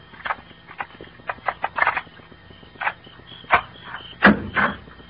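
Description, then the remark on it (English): Keys jingle and scrape against the lock of a house's locked back door in a series of short, irregular metallic clicks and rattles as someone tries their keys, with brief pauses between attempts and no talking. “Come on, we'll try this back door anyway. Uh-oh. Locked. Here's an axe. I'd like to try my keys first.”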